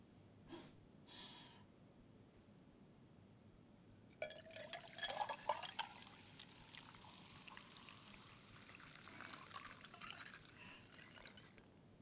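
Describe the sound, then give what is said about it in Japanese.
A couple of short hissing bursts, then fizzy soda is poured into a cup up close, the pour's pitch rising as it fills while bubbles crackle and hiss steadily throughout. “喉がシュワシュワする感じもだけど、コップに入れた時の音が気持ちいい。”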